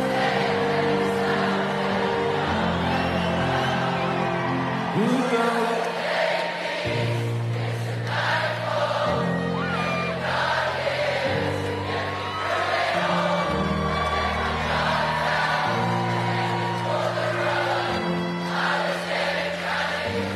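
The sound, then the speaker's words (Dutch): A huge concert crowd of some 60,000 people sings a melody together in unison, holding long notes that step up and down in pitch, loud and continuous over a wash of crowd noise. “Ik vind het ook altijd fascinerend trouwens dat als 60.000 mensen die niet kunnen zingen, samen zingen, het ineens wel zuiver is.”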